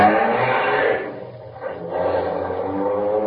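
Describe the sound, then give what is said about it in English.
A Bentley's engine roars loudly, dips briefly, then revs up again as the car pulls away to follow another car, a steady rumbling drone with no voices. “Follow that car. Quick, hurry.”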